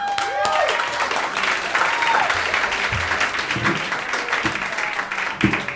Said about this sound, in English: Wow, thank you for that smattering of applause. What a great crowd.